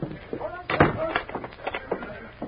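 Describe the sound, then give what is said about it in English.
A door thuds shut once, a short solid knock near the start, followed by faint clicks and rattles as it is locked, with muffled voices murmuring throughout. “I'll lock the door.”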